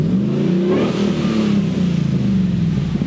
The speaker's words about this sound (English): So if you keep your foot out of it, it's mellow. It's a short exhaust, but it's all TIG stainless ceramic coated with dual MagnaFlows and a crossover. And I may need to change that because that's too low.